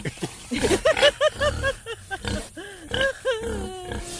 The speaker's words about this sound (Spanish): Es que ese puerco está cómico. Ah, cómico.